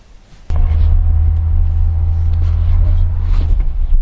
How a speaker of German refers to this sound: Zurück in the car, back in the Auto. Jetzt geht's ab wieder zurück nach Hamburg. Wir haben ungefähr, also wenn ich die Hinfahrt als Maßstab nehme, 3 Stunden Rückweg vor uns.